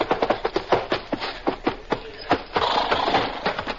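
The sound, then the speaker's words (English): Horse hooves gallop in a quick, rhythmic beat of thudding strikes, steady, giving way to a rougher, rushing noise near the end. “Twenty miles further along, a relay rider with a fresh horse waits impatiently.”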